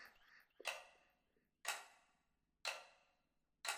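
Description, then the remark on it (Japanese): A clock ticks slowly and steadily, about once a second, each sharp, fairly loud tick ringing out with a short echoing decay before the next. “この時計の音を聞きながら、今度は体の力を抜いていくの。”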